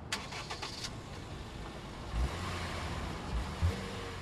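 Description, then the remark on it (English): The engines of a 2000 Mercedes-Benz E-Class automatic sedan and a 2007 Honda Fit stick shift, just started in front of Orlando's City Hall, rumble steadily at a low pitch, with a few brief high whines early on and periodic louder low thumps as the engines rev slightly. No one speaks. “So with our engines started and our producers rolling tape, we got to it.”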